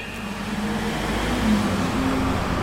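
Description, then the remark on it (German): A steady, enclosed roar of a vehicle moving through a tunnel, passing a passage with ventilation fans for the fresh air supply, with a low droning hum and faint tonal whine rising briefly midway; continuous and fairly loud, no voices. “Wir fahren weiter und müssen Ohrstöpsel einsetzen. Der Wagen passiert einen Gang mit den Ventilatoren für die Frischluftversorgung.”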